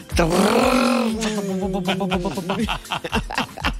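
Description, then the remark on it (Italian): A voice imitates the revving engine of a 600-horsepower RS6 car, a sustained buzzing vroom whose pitch rises and holds, then breaks into choppy sputtering bursts and laughter-like pulses at the end. “Come fa? Come fa il motore?”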